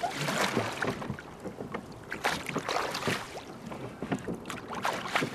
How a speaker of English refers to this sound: If we're not all talking, which some do, some don't, you can hear the oars against the water, and it's that nice sort of lap-lap sound.